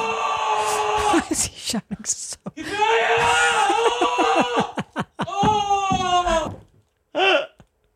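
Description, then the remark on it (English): A person screams and wails loudly in bursts, the voice harmonic-rich and strained, with short shrieking syllables that sound like a foreign language, pausing briefly before a final short cry. “And also because it's a foreign sounding scream, which I like the foreign sound screams are fun.”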